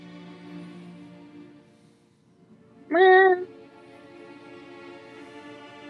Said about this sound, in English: The hell was that? It sounded like a cat, so...